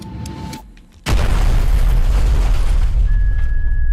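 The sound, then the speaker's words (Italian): From a war film trailer: after a quieter opening with a faint steady tone, a sudden loud blast erupts and becomes a continuous, heavy roar of explosions and gunfire that carries on to the end, with no talking. “Poi continua con tutte le esplosioni. Con gli spari e tutte le esplosioni.”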